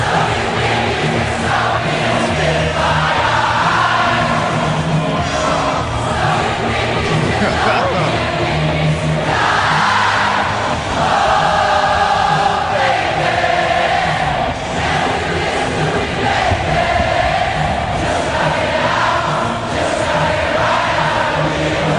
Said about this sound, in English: Have been amazing to be in that crowd, because the concert hasn't even started. Wow. And you have the sense of camaraderie around you. Oh, yeah. As 65,000 people are singing a song together, huh? I don't want to stop it. I want to hear it to the end.